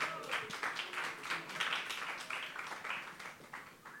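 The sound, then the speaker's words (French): Sustained applause from the audience of a live festival show in Brussels. It is a dense wash of many hands clapping at a steady, moderately loud level with slight swells, and no clear talking over it. “Vous pouvez applaudir.”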